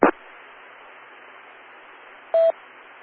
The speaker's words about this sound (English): There were days when there were many, many groups across the land that discovered that the phones worked by a set of tones, and all you had to do is play those tones into the phone, and you could connect anywhere in the world.